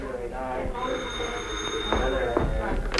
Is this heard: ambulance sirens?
no